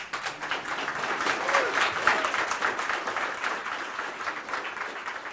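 Sustained audience applause for the DBIP project presentation, a dense wash of many hands clapping steadily at moderate loudness for several seconds, with no pauses and no voices standing out.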